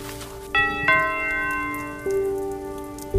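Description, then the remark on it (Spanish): Steady rain hisses throughout on a night in August 1968 at a country house in Tuscany, while a doorbell rings repeatedly at 2 a.m. with bell-like tones at uneven intervals that linger as the downpour continues underneath. “Así repetidamente, porque son las 2 de la madrugada y Francesco De Ferice, carpintero, se despierta, mira el reloj, se asoma por la ventana y fuera, bajo la lluvia, hay un niño de 6 años.”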